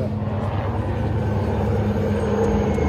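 Steady, heavy rotor drone of large helicopters approaching, a dense low-pitched throbbing that stays loud and constant throughout, with no voices.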